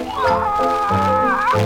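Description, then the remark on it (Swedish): A voice imitates a hen, the wise hen Malin, clucking, making a few drawn-out, tuneful clucks in a continuous run. The sound is fairly loud. “Säg med kloka hönan Malin vad är åt.”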